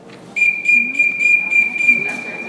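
A loud, shrill whistle sounds and holds for about two seconds, warbling in a rapid pulsing trill, with no voices. It is a whistle signal to stop shooting in an archery class for teachers in training.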